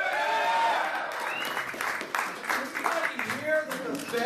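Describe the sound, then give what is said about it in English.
A crowd at a Senator Rand Paul campaign event in Des Moines breaks into applause after he asks whether anybody wants to audit the Fed, a dense patter of clapping mixed with shouts and cheering voices, loud and steady through the whole few seconds. “Senator Rand Paul of Kentucky came before an audience in Des Moines earlier this month with what might prove to be a reliable applause line as he stumps for his expected run for president.”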